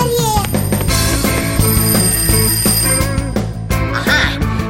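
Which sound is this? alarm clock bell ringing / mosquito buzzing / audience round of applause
alarm clock bell ringing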